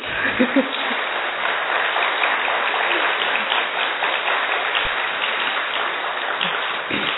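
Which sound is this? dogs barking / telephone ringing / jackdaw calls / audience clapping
audience clapping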